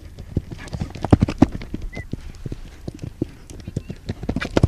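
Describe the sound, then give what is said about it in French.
Horse hooves clip-clop in an uneven walking rhythm, moderately loud, as the horse is ridden toward a bar to go over, with a person speaking intermittently over the steps. “Allez, on essaye de le faire sur le cheval maintenant.”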